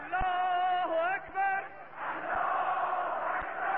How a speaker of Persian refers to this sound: ای دشمن، گوش کن به صدای کارون خروشان، بشنو پژواک فریاد الله اکبر را در سینه مردان.